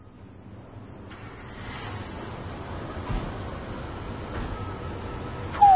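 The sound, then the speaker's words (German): Steady, cold outdoor wind rushes and buffets against the microphone at a housing estate in Rostock, Germany, a low rumbling hiss that slowly grows louder, with a short sharp noise right at the end and no talking. “ist das kalt und windig hier.”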